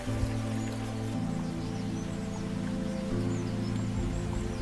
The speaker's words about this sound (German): Folge jetzt dem Verlauf des Baches. Dein Weg begleitet diesen Fluss. Er ist mit vielen kleinen glitzernden Kieselsteinen befestigt, die dir in der Sonne entgegenstrahlen.